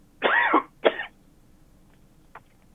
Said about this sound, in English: I have a recurring cough, so I apologize.